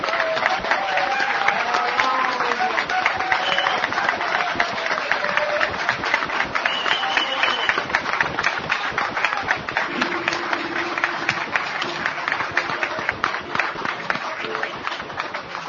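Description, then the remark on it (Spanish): A sustained burst of audience applause, dense and steady clapping at a loud level for the whole stretch, with faint murmuring voices and brief tonal cheers mixed underneath. “¡Qué aplauso, eh!”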